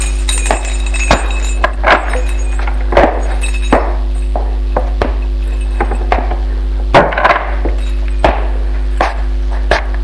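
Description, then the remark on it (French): Keys jingle and scrape as the lock of a three-room apartment door is worked, on the second floor of an old building on boulevard des Breteaux, a string of irregular metallic clicks, clinks and a few heavier clunks over a steady low hum, with no voices. “Il va ouvrir la porte de son appartement.”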